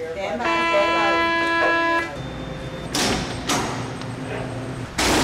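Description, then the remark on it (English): A harsh, buzzing jail alarm at the Turner Gilford Night Jail, a maximum security prison in Miami, sounds steadily for about a second and a half, then heavy steel and glass doors slam shut three times behind someone entering, each a loud metallic bang followed by a lingering rumble. “Alarm sound and steel and glass doors slam shut behind you as you enter.”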